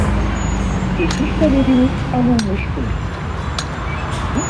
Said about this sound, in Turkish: Evet, yanımda da otobüs durdu bir tane.